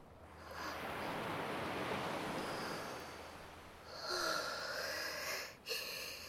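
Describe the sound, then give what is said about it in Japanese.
Ocean waves wash onto the shore at the sea in a steady roar of surf. The rush swells, then breaks into a brighter, hissing wash before briefly pulling back. No voices are heard. “潮の香りがする。波の音も心地いいね。”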